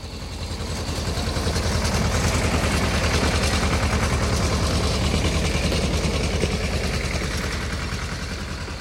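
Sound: tractor engine running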